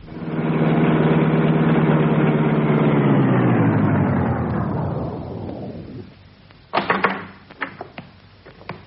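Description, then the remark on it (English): A car engine runs with a loud, steady rumble for several seconds, then winds down and fades out, followed by a few sharp clunks and rattles. No one speaks. “Here comes the car.”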